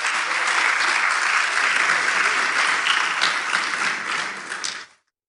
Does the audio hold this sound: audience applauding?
yes